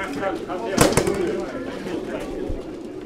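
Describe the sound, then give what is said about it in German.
Racing pigeons coo softly amid a busy murmur as they are registered and put into a truck's transport baskets for a race, with a sharp clatter near the start and a brief thump later; voices chatter faintly throughout. “Es wird Zeit, die Tauben zu registrieren und in die Transportkörbe des LKW zu setzen.”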